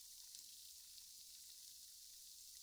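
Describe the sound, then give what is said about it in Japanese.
A steady, soft fizzing hiss of carbonated shampoo on a scalp during a shampoo, with the hands lifted off the head, faint crackling pops, bright and airy, continuing evenly throughout with no one speaking. “ほら、パチパチシュワシュワって音するでし”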